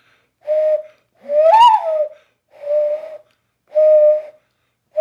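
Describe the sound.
A person imitates a turtle dove's cooing with their voice, giving a steady series of soft, purring coos about half a second apart, fairly loud, with no other talking.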